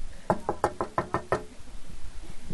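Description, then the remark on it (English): A rapid series of six firm knocks on a door by the next-door neighbor, evenly spaced, then quiet with no talking. “on the door. And Mrs. Fox went over and opened the door, and guess who it was?”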